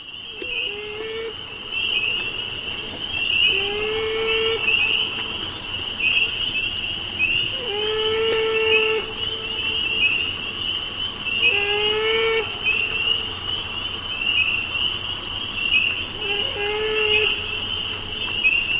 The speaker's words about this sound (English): As a matter of fact, it's the saddest sound I've ever heard. The male beaver, wounded, swimming in slow circles in the evening, crying out inconsolably for its mate and lost offspring.